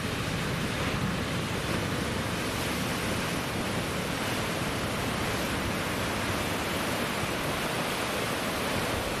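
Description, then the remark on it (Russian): Waves wash steadily over rocks in a dense, continuous rush of water noise, fairly loud, with no distinct swells standing out and a hint of wind in the mix. No one speaks. “Хотя и у нас тут тоже, в общем-то, какие-то волны имеют место быть. По камням тут растекаются.”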